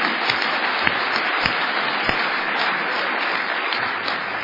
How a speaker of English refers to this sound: And one more time, at yet another convention, the message has been carried to me by all the wonderful speakers. And let's give all the speakers a round of applause.